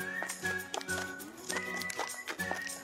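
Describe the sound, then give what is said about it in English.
The hooves of Jack, a horse living in Eau Claire, clop in a steady, even rhythm, with the horse neighing over the footfalls; no one speaks. “We'll hear a community member and Ed Jack's owner talk about this special horse.”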